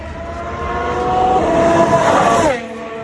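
A Ferrari Formula 1 car from two years earlier, driven by Carlos Sainz at Fiorano, screams by with a high-pitched engine, its whine growing louder and rising in pitch before abruptly dropping as it passes and fades.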